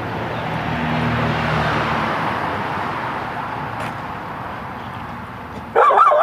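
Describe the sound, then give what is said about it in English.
A dog barks sharply near the end, loud, after several seconds of steady rumbling background noise like an idling vehicle outdoors. “Easy dog. More than a big fella.”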